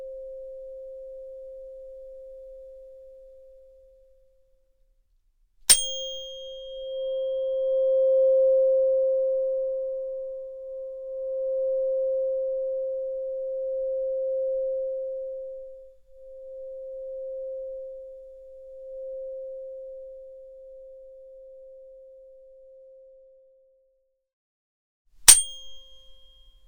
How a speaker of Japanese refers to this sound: この音叉の音、ソルフェジオ周波数って言うんだよ。この音は体の痛みを和らげるだけじゃないの。そう、心の痛みも癒してくれる。